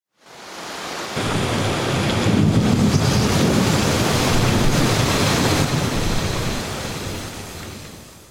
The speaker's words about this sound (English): Look, Peter, no, it's cloudy. And windy. Oh, no, it's rainy. And it's so windy.